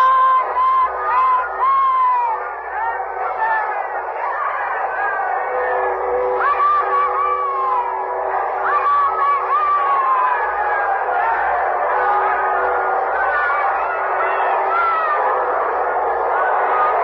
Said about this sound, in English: The people are crushing against the gates of the castle, shouting for a view of Queen Elizabeth.